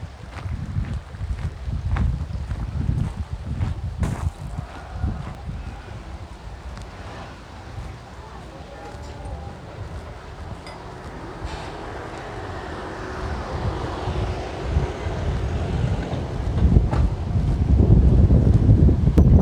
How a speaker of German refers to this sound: Wasserfall wird hinter mir gelassen.